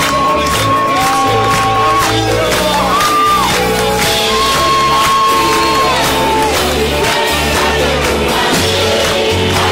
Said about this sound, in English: Keep clapping.